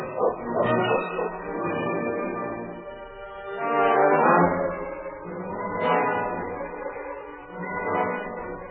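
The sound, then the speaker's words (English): A team of sled dogs barking and yelping together in a continuous, overlapping chorus, fairly loud, with the noise swelling and easing over several seconds and no one speaking. “Go to the front of the team, King. Get the dogs up.”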